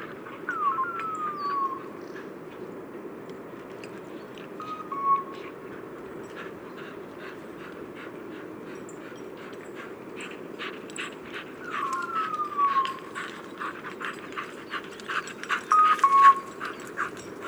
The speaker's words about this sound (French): Alors, ce son étonnant que je ne comprenais pas, en fait, c'est des colliers de chiens de chasse. Voilà, donc j'ai vu l'explication du chasseur. C'est un chasseur de bécasses, en fait, qui, pour ne pas perdre ses chiens, a mis un collier